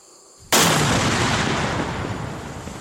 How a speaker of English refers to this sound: Whew. Unbelievable. 30-foot by 60-foot explosion, just from this one little device. One more down, 4 or 5 million to go.